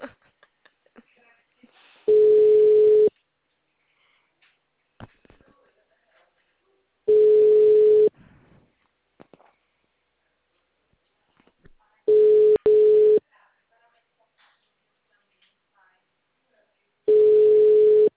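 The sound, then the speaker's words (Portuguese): A phone call rings out unanswered: four steady, mid-pitched ringback tones, each about a second long, repeating every five seconds with faint quiet between them. “Eu vou ligar pra ele do Biriri. Grave seu recado agora. The number is not answering.”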